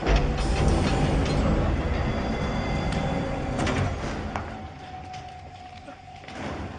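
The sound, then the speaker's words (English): A heavy door slides open with a loud, rumbling mechanical rush, punctuated by a few clunks and a brief whining tone before the noise settles, prominent. “And I am ordering you to open that door.”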